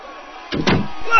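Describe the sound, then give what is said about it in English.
A single door slams shut with a heavy, booming thud that rattles briefly before fading into a quiet room hum. “I hear doors slamming, people yelling.”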